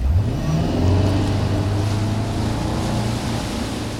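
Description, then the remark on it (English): A motorboat engine drones loud, its pitch climbing briefly at the start before settling into a steady, throaty hum over rushing water and wash as it tows a wake surfer behind it on a rope. No one speaks. “Similar to water skiing, a wake surfer is towed behind a boat with a rope, but the person eventually lets go to surf the large waves left in the boat's wake.”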